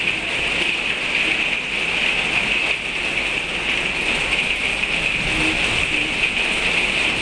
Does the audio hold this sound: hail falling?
yes